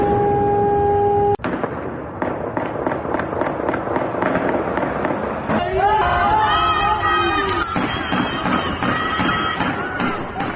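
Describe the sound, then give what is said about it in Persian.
Rapid, repeated gunshots crack over a dense, noisy background at Evin prison during a large fire, with explosive thuds, shouting voices and a wavering siren wail joining midway through. “شاهدان عینی چیز دیگری میگن و در شبکه‌های اجتماعی مشاهداتشون رو منتشر کردن، از آتش سوزی گسترده، صدای آژیر و تیراندازی در زندان و حتی انفجار خبر دادند.”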